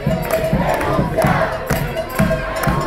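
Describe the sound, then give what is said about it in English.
Thousands of protesters on the cobblestone streets outside the governor's mansion in San Juan chant loudly in unison, shouting "Resign, Ricky, resign" again and again in a steady, pulsing rhythm with a dense roar of voices underneath. “The protests began peacefully with thousands of demonstrators flooding the cobblestone streets outside the governor's mansion.”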